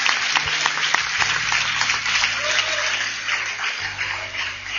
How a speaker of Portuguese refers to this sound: Você que está recebendo, aplauda esta palavra, igreja.